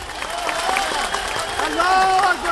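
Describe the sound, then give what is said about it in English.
A large crowd of Karzai's political opposition at a rally claps steadily and cheers after a speech by Saleh, with many voices shouting and calling out over a dense wash of applause that stays loud throughout. “The crowd loved it, but it's fair to say the group gathered here represents Karzai's political opposition.”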